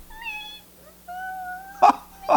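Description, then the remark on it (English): A voice imitates a newborn mouse's cry with thin, high, squeaky whines: a wavering squeal, then a longer steady one, followed by two short breathy bursts, fairly quiet. “Oh, I can't do Baby Mouse very well.”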